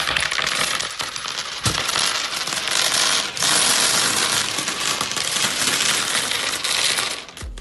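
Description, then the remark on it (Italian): Many small coins clatter and jingle in a dense, steady stream for several seconds, a bright, high metallic clinking with only brief dips, and no voices. “Quante monetine che cadono sempre.”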